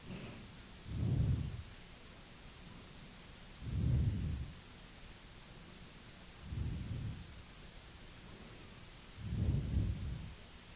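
Steady hail hisses and patters throughout a thunderstorm, while four deep, rolling rumbles of thunder swell and fade at regular intervals.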